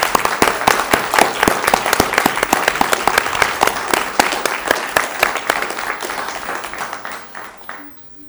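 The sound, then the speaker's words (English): An audience gives a round of applause for a group of youth for several seconds, dense overlapping claps with sharp individual hits standing out, steady at first and then gradually thinning and fading out near the end. “Thank you all for holding your applause, but let's give all of these youth a great round of applause right now.”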